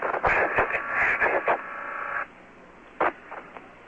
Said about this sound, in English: That whirring sound is, to my knowledge, has always been a fan in the spacecraft. A glycol pump, more likely.